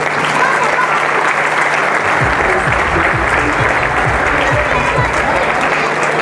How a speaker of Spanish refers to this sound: La verdad que los chicos vienen trabajando, los chicos y las chicas vienen trabajando muy bien, así que yo creo que se merecen un fuerte aplauso, ¿no?